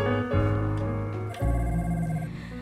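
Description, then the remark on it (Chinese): A mobile phone ringtone plays a steady, tonal melody with sustained harmonic notes, fairly loud, with a brief break partway through and no one talking over it. “下次啊，快递手机这种东西哦，要记得关机的，啊，不然那半夜来电跟那个鬼来电一样，吓死人了。”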